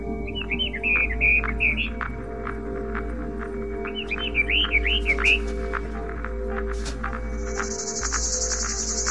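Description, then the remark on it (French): An Orphean warbler sings two short, rich warbling phrases a few seconds apart over a steady low outdoor hum, with a thin insect buzz rising near the end. “Fauvette Orphée.”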